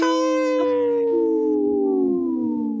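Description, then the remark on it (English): Several human voices imitate wolves, holding a loud, sustained howl that slides slowly downward in pitch for about three seconds, with no talking. “Hey, practice that howl.”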